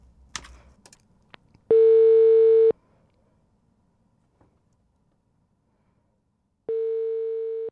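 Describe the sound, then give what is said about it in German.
A few quick clicks like a handset being picked up, then two long steady ringback tones of an outgoing phone call, several seconds apart, each about a second long, clear with silence between. “Ich rufe an.”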